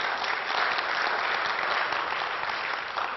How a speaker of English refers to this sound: Wow. Yeah, you clapped.